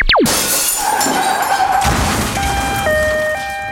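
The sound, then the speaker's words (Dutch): A quick falling whistle leads into a loud burst of shattering glass as a child's football shot breaks the neighbours' window, then a sustained noisy crunch of impact debris as the arriving neighbour crashes his car into a parked car, with steady tones stepping between pitches toward the end. No one speaks. “Kleine Sjaki zag de ruit van de buren als doel en scoorde. De buurman die net aankwam rijden, zag dit en reed van schrik tegen een stilstaande auto”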